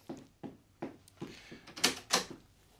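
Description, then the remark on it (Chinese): A door is opened: a run of soft, evenly spaced thumps, then two louder, sharper clatters like a latch and handle turning, with no voices. “大哥，开门啦，系我啊。”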